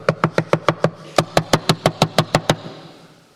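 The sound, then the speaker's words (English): Rapid knocking on a door, depicting Mary knocking on the disciples' door after the resurrection: a quick run of about six raps, a short pause, then a longer burst of about eight more, fading into a soft hum. No voices. “And she went to a door.”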